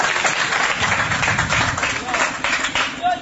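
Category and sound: crowd, audience applauding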